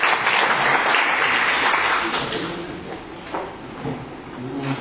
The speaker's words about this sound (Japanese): 2月の政治国家会議の大きな拍手よろしくお願いします。